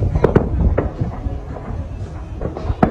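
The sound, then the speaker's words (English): A large firework shell bursts with three sharp, booming reports in quick succession, loud, over a rumbling, crackling background. “Play it one more time, because that is like, it goes off and it looks like a Roman candle. Yes. Right. And then this massive explosion happens. Three, I loved it. Three reports.”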